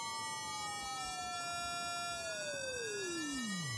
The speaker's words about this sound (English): You can start to hear the phasing between the two frequencies. And then they're starting to actually be audible as separate tones.